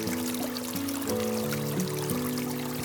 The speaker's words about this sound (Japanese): 小川はさらさらとよどみなくどこかへ流れていく。澄み切った透明な水越しに川底の小石や砂利を覗くことができた。